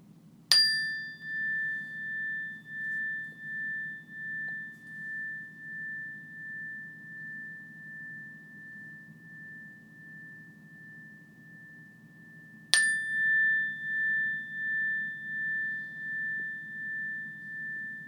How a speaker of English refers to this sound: in a moment, I'm going to ring the meditation bell. And when I do, I want to again encourage you to shift your awareness to your ears, your hearing sense. Notice the sound of the bell until you can't hear it any longer or until it's no longer there.